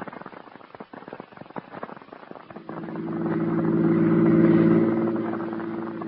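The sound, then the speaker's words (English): A car engine cranks with clattering mechanical noise, then catches into a steady, rising hum that swells as the vehicle pulls away and begins to recede. No one speaks. “Get the car out. I'll show you if I'm nuts or not.”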